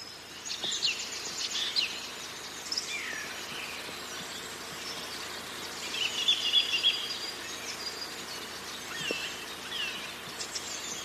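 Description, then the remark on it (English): A sedge warbler sings a fast, scratchy, chattering song by a reed bed, with rapid varied phrases running almost continuously, over a quiet outdoor background with no voices. “But yeah, we've definitely got a sedge warbler singing by the reed bed in front of us.”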